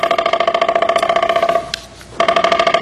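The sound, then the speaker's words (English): A woodpecker drums on wood in a rapid, even roll of sharp resonant taps. The roll breaks off for about half a second, then picks up again at the same fast pace. “99.7% of the energy from what this bird is doing here goes to its body, and only 0.3% to its head.”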